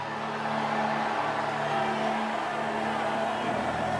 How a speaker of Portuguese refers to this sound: Esse grito foi tão gostoso que moveu o céu. Esse foi o melhor grito que eu já ouvi na Assembleia de Deus Bom Retiro.